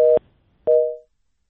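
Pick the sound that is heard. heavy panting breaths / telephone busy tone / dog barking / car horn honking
telephone busy tone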